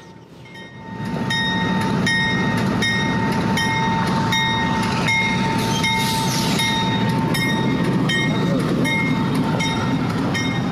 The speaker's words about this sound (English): We already got our first moving train. We got our first movement. I'm not sure its call sign, but that lead engine 4146 just got clearance to head out of Rose Yard here in Altoona